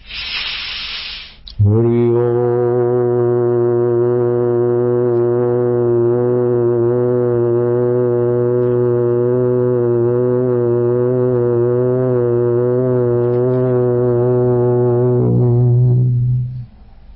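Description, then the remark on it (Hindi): A brief breathy rush gives way to one long, deep chanted Om, a steady, resonant hum held evenly for about fifteen seconds before it tapers off. “जो धन मिल गया मिल गया, जो चला गया चला गया, जो आरोग्य मिला वो मिला, जो गया सो गया, लेकिन जो कभी नहीं जाता उसमें ओमकार का गुंजन करके शांत होते जाओ।”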